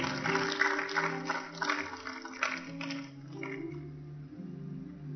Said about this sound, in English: Thank you, my boys. Wonderful. Clap for them. Praise the Lord.